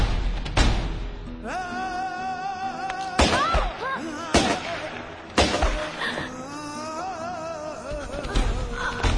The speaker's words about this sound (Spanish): En la puerta de sus casas, de repente, los dos hermanos, que siguen ocultos entre las sombras, se miran, se dan una señal convenida mutuamente y de pronto irrumpen en la calle principal y abren fuego con las escopetas.